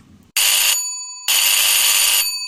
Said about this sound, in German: Viel zu laut meldet sich mein Telefon.